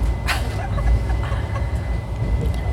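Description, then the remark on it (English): Steady low rumble of a moving train heard from inside a carriage, continuous and fairly loud, with faint clatter and a brief higher burst early on. “Is this better than a Russian train?”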